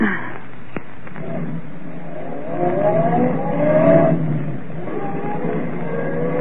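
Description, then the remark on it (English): A car engine revs up and pulls away, its pitch rising and sweeping as it accelerates, steady over about six seconds with no talking. “Shh, I've got my car right here, girls. Go on, hop in.”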